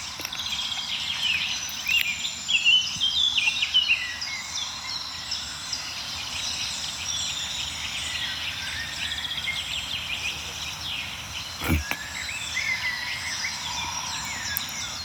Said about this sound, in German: Ja, wir hören so einen milden Amselteppich noch um uns herum, also so einen Klangteppich aus verschiedenen Amseln, die von weit oben singen.